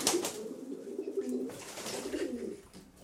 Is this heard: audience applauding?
no